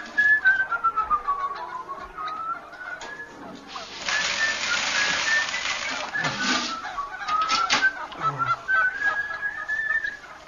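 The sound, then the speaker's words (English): Geese honk loudly in a continuous, overlapping chorus, with high whistling calls rising and falling and a dense, noisy burst of squawking in the middle. No one speaks. “Get them off, please. Please, I can't stand it. Hate birds, you see.”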